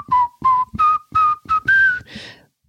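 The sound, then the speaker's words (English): A person whistles a short, bright pop melody: six or seven clear notes in quick rhythmic bursts, rising in pitch, with a breathy final note trailing off. “What are you whistling?”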